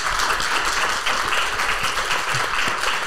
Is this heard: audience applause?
yes